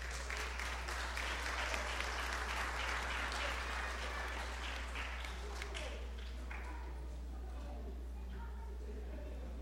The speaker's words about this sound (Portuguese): Uma salva de palmas a todos.